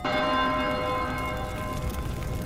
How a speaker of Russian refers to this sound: это были чудесные городские железные часы, знаменитые во всем свете по своей красоте и устройству, и по громкому звуку своего большого колокола, который слышен был не только во всем городе, но и в окрестных деревнях более чем за 10 верст.